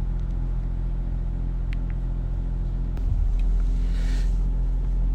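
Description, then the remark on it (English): Steady car engine rumble while driving on a long, chilly morning drive to Pool, a low droning hum with faint road noise and a slight swell partway through; no one speaks. “actually I find now on these longer drives, it's something to do”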